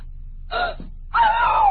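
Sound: woman screaming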